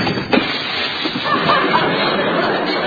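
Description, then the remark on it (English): A door slams with a sharp bang, breaking the newly fitted glass pane in it, then a loud, sustained crash of shattering glass fills the rest of the moment, with no one speaking. “But don't slam the door because I just put a new glass in it and it might break.”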